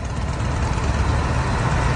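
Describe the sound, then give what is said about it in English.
A U.S. Army tank rolling through Washington, D.C. rumbles steadily for two seconds, a deep, continuous low-pitched engine drone with a dense mechanical texture and no voices. “The U.S. Army brought tanks and other armored vehicles into Washington, D.C. last night.”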